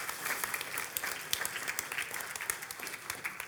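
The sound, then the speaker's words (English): A worshiping audience breaks into steady applause for their 18 years of meeting at this place, a dense wash of many hands clapping at once, with sharp individual claps popping out of the sustained roar throughout. “We've been here for 18 years, which, hey, that alone is worthy of applause, that they have allowed us.”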